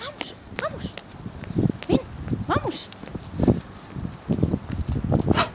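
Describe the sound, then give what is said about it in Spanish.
Quick, irregular pattering of paws as the dog Sander runs around at full speed, scrambling and scuffing, with rustling and a few short bursts of movement; a voice murmurs intermittently in the background. “Bueno, no sé si se le escucha, está aquí corriendo a todo correr.”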